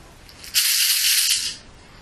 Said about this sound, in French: Je prends ma douche.